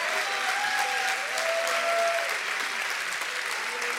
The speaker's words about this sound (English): And you know what? I appreciate the applause, but can we give Jesus a big round of applause?